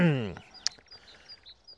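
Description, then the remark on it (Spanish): A voice trails off briefly, then small birds chirp faintly on a Saturday morning: a few short, high tweets scattered over a quiet background. “Que se oyen los pajaritos, espero.”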